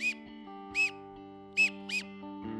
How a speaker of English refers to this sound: Probably mix in some teal whistling, too.